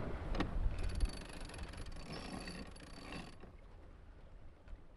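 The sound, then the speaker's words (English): A sailboat winch ratchets in a rapid run of clicks for a few seconds as the flapping jib is sheeted in, over wind and water noise, then falls quiet. “I think I need to sheet in the jib.”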